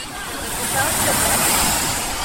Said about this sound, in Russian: Потому что в любое время можно поднырнуть под волну. Народ резвится, плещется в волнах.